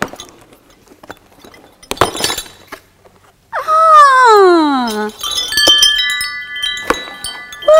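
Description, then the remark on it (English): Wind chimes, received as a gift, clink with a few bright metallic strikes as they are unwrapped and then ring out in sustained, shimmering high tones, after scattered rustling clatter and a brief gliding vocal exclamation. “Look! Lovely wind chimes.”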